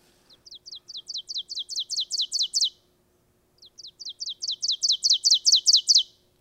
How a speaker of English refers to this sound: let's listen to an oven bird, and then you can talk about it